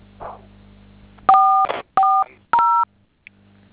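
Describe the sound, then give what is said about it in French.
A telephone keypad being dialed: three clear, loud dual-tone beeps, each about half a second long, pressed in a steady sequence with short pauses between them. “Awa wako kod kompoze woga telephone ma etual.”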